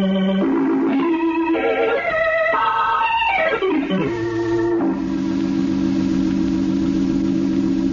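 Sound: car engine running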